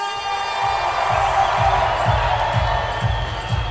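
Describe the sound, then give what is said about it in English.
A theater crowd at the Wiltern Theater in Los Angeles, at The Empire Strips Back, an Australian Star Wars burlesque show, cheers and applauds for Luke Skywalker in a loud, continuous roar. A steady low thumping beat pulses underneath about twice a second. “So, ladies and gentlemen, give everything you've got in the way of applause for Luke Skywalker!”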